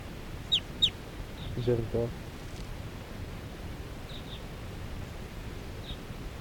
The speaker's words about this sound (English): And the wild birds, four wild birds in the flock are calling. They're gonna take off.